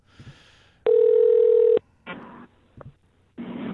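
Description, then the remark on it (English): A telephone call being placed to a guest of the Shining Wizards live show: a steady electronic ring tone holds for about a second, surrounded by short line noises and clicks, with no voices. “So who are we calling?”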